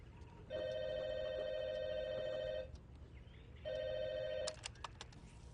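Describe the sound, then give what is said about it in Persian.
A telephone rings twice with a steady electronic trill, the second ring cut short by a few sharp clicks, as if the receiver is picked up, over faint background hiss. “پیتر هم تلفن رو جواب بده.”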